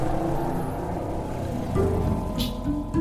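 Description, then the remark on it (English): Steady street traffic noise in the neighborhood of La Sagrada Familia in Barcelona, Spain, with a droning scooter engine that revs up briefly midway, surrounded by a continuous wash of passing tour buses, taxis and scooters, moderately loud, with no voices. “La Sagrada Familia, designed by Antoni Gaudí, draws so many people to see it that the neighborhood is congested with tour buses and taxis and scooters.”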